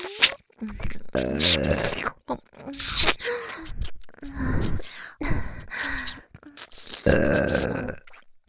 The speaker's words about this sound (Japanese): お兄さん、お兄さんのような素敵な方にゲップを聞いてもらえて幸せですよ。